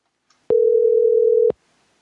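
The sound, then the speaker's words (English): A single steady telephone call tone from an unanswered phone call, a low electronic beep lasting about one second, starting and stopping sharply, heard alone with silence around it and no talking. “Hopefully, if they answer, not like that last number that didn't answer.”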